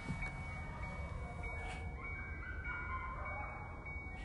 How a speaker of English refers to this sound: Wow, I'm recording my car and you can hear coyotes. I'm going to leave this in the podcast. I want you guys to hear this, if you can.